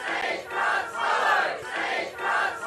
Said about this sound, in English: Back in 2017, more than 100 protesters gathered at Frog Hollow in Darwin CBD, urging the government to abandon plans to remove 50 trees to make way for Barnison Boulevard, worried that the green space and historical value would be lost.